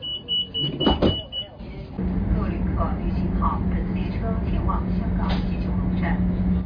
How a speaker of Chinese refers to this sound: 10:25，列车准时发车。